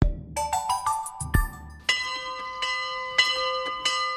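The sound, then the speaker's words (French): Church bells in France ring out on Sunday 11 November at 11 a.m. for 11 minutes, in a series of resonant strikes at varying pitches, each tone lingering and overlapping the next, clear with no voices. “En hommage aux soldats du 14 et 18 juillet, de nombreux diocèses en France ont appelé les paroisses à faire sonner leurs cloches ce dimanche 11 novembre à 11h pendant 11 minutes.”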